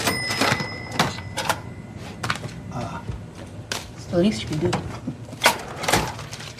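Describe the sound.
A cash register rings with a sustained bright chime, followed by several sharp mechanical clunks as the drawer slides and shuts, with faint voices murmuring in the background.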